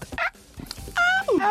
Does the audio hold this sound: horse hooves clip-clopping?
no